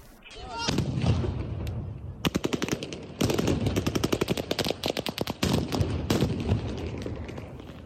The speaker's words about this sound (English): In southern Ukraine, Russian forces use stun grenades and machine gun fire to disperse a crowd of hundreds of people who gathered in Kherson on Monday to protest against the Russian occupation of their city.